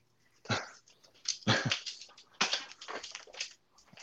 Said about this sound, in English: I got a couple of dogs too. So when they start whining, my alarm goes off, you know.